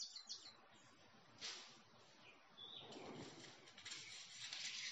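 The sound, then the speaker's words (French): Faint bird song with scattered chirps and tweets drifts over a soft, steady wash of outdoor ambience, low in level, with no one talking. “Vous entendez peut-être le chant d'un oiseau.”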